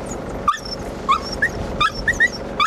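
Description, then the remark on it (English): A dog named Lexi, shown driving a ute, whimpers and yips in a string of short, high, whiny cries, about seven of them, clear over a low background hum. “You know that dog would never undermine the public servants.”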